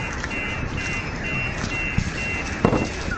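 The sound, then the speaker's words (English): A car alarm sounds continuously with a steady, high-pitched electronic tone over a rumbling, noisy outdoor background, with a couple of brief thuds near the end. “You know, I got a theory about car alarms.”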